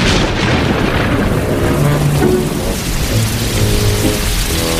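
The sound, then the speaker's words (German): Heavy rain pours down steadily with a dense, hissing roar, while deep rumbles of thunder roll underneath throughout. No one speaks. “Aber kaum waren wir draußen vor der Tür, zog auch schon ein Unwetter herauf.”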